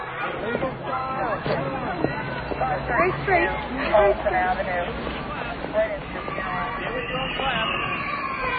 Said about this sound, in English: What's that? It's a fire alarm!